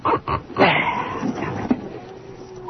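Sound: dogs barking and whimpering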